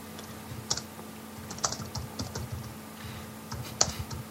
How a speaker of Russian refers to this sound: Кто-то там по злому печатает. Нет, не я. У меня микрофон отдельно стоит. И как я печатаю, не слышно. Ну, нет, это я печатаю так, по злому.